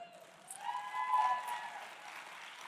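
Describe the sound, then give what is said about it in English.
An audience breaks into clapping, a dense patter that swells to a peak in the middle and then eases off, with no one speaking over it. “I don't know why you clap at sickness.”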